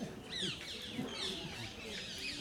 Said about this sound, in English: And you hear all the birds are singing, Brindadevi's parrots have come.